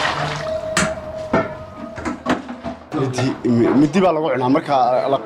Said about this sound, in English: Kurir plunges an aluminium plate into the vat and scoops up a slab of meat